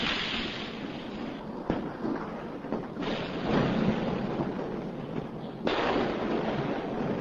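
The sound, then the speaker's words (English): A fireworks display in the Gorgan area just outside the centre of Delhi crackles and rumbles in a continuous dense wash, punctuated by a few sharper bangs spaced a second or more apart, with no voices. “God, I wouldn't mind a firework display like that around my house, that'd be for sure.”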